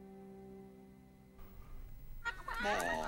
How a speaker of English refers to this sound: feeding the chickens in the hen house, whilst a particularly noticeable chicken clucks away to the others.